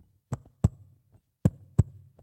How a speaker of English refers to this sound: They literally had to hold that baby up against their skin. Mom and dad would go in on a regular basis and just lay the baby on their skin and so that they could hear the heartbeat.